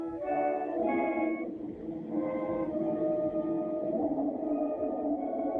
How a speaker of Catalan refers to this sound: l'obsessió va arribar al lloc de crear un instrument que se deia l'intona rumori, que va fer la patent, que va escriure peces amb altres instruments i que fa com un soroll molt, molt curiós, perquè justament està pensat per això, per a fer soroll.